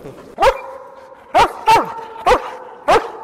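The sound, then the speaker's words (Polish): A trained dog that works on a film set barks five times in short, sharp bursts spaced unevenly over a few seconds, each bark loud and clear against a steady background with no talking. “Nie ugryzie mnie. Chyba nie. O, teraz mi daje łapę.”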